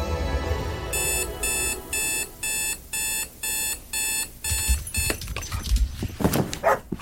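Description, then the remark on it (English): A dog barks a few times near the end, right after a rapid series of loud, evenly spaced electronic alarm beeps; nobody speaks. “Hey, what are you doing with my dog?”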